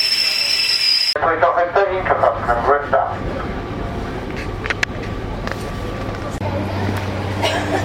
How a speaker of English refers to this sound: Well, there are direct trains to Manchester Airport from Huddersfield, but I didn't get one, so I'm changing at Manchester Piccadilly and catching another train. It's just coming in now.